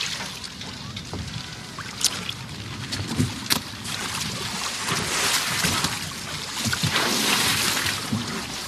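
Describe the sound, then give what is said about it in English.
Someone clambers into a small boat: water sloshes and splashes steadily against the hull, broken by a few knocks and bumps of shifting weight on wood. “You can't just climb into my boat.”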